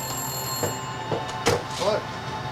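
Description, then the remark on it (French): A public telephone rings at exactly 7 p.m. with a steady electronic tone, broken by several short bursts and clicks over about two seconds, at moderate volume. “Le téléphone se mit à sonner à 19h précise quand le père d'Amy arriva.”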